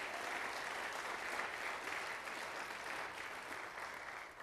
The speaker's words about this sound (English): Let's clap our hands to the Lord and make a joyful noise.